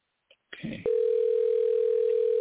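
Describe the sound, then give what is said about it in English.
A soft click and brief handset rustle, then a steady, loud telephone tone on an outgoing call from the Eddie Jones Radio Talk Show hums on unbroken to the end, with no voices. “There you go. It's ringing.”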